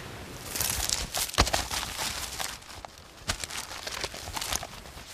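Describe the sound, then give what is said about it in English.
Paper rustles and crinkles in a steady jumble of crisp scrunches with a few sharper snaps, as rubbish paper is dropped into a paper recycling bin on a beach. No voices. “This bin is for recycling paper.”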